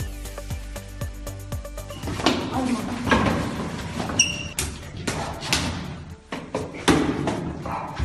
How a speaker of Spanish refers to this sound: Lo que escucha son golpes secos, patadas y puñetazos que una chica de 13 años está recibiendo de otra niña, mientras todo se graba una vez más con el teléfono móvil.